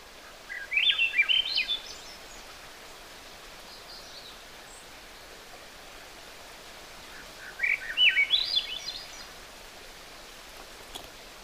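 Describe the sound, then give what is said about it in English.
A songbird sings two bright, rising phrases several seconds apart, clear, over a steady hiss of woodland ambience on a hiking trail in Hovland, with no voices. “But this song is something you can hear, and it'll tell you what the bird is.”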